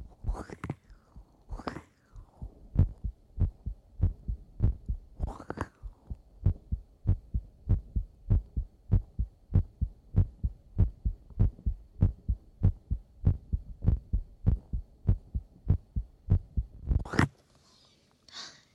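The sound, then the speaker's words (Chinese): A close, muffled heartbeat thumps steadily and quickly in an even rhythm, recorded with an inexpensive new microphone pressed against the chest after the shirt was rolled up, with a few soft rustles and breathy noises near the start and end. “首先把衣服卷起来，再把麦克风贴上来，听一下，听一下。那完全 OK。我真的好久没有做心跳了，好久。”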